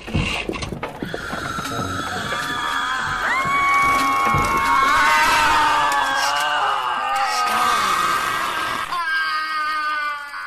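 A dense chorus of shrill, wailing screams from many clocks at once, overlapping and sustained for several seconds, loud, before cutting off abruptly near the end.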